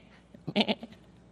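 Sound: lamb bleating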